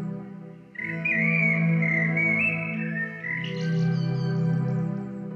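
Birdlike whistling warbles over a steady low droning hum, entering after a brief pause and continuing with sliding, wavering tones for several seconds, fairly loud.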